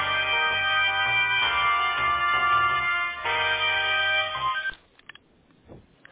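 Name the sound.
phone call being transferred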